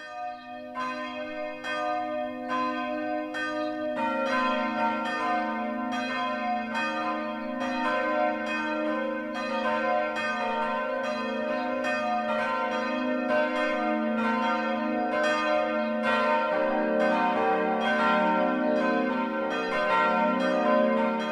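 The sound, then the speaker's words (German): The noon ringing of four new church bells at the St. Jakobus church in Dürren-Mungenau, near Abenberg in Landkreis Roth, Bavaria, rings together. Their soft, round tones, not shrill like iron, overlap in a steady, continuous wash of loud strikes, with no voices. “Kein eiserner Schriller, sondern der weiche, runde Klang von 4 neuen Glocken lädt seit kurzem in die St. Jakobuskirche im alten Pfarrdorf, das heute zur romantischen Stadt Abenberg, 35 Kilometer südwestlich von Nürnberg, gehört.”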